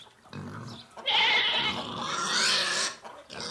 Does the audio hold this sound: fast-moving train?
no